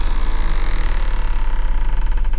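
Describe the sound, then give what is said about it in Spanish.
A house door creaks open slowly at 8 in the evening after keys are heard in it, a drawn-out grinding squeal with a steady ratcheting pulse and a low rumble underneath, fairly loud, with no voices. “Luego que ésta se abrió.”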